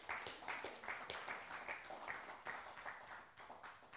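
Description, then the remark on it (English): A crowd applauds steadily for the worship team, many hands clapping in a dense, continuous patter with no voices standing out above it. “And so please give another round of applause to the worship team.”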